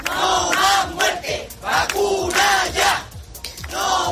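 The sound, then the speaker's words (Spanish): About a thousand residents of Coria del Río, in the province of Seville, chant and shout together in the street in rising, rhythmic bursts, loud voices swelling and dipping every second or so. They are protesting to demand measures against a mosquito-borne virus, including more fumigation and new health protocols. “Un millar de vecinos en esa localidad han vuelto a salir a la calle para pedir que se tomen medidas, más fumigaciones y también nuevos protocolos sanitarios.”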